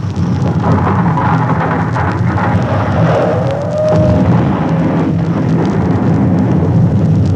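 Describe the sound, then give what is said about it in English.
A loud, deep explosion rumble roars continuously throughout, thick and booming, with a brief rising whistle midway as pieces of a blown-up city whizz by; no voices. It is the first explosion, throwing tons of rock and dirt into the air. “There, hear that? That's the first explosion.”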